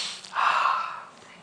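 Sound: sniffing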